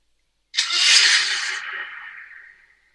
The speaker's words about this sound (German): Und es klang auch, als wenn da irgendein Motor gestartet wurde.